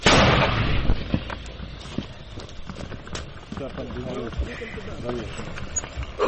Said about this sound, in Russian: Бабахнули? Чудово бахнули. Чудово бабахнули. Погнали, старі міни не підводять, ні? Хлопці працюють 82-м калібром, вони працювали по легкій техніці, зараз будуть працювати по важкій вже техніці, по БТРам, БМП